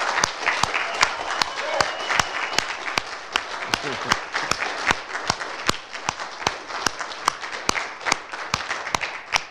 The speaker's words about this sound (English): Now, I know everybody just sat down, but if you are a veteran of any branch of the United States military, would you please stand up right now? And let's all give these guys a round of applause.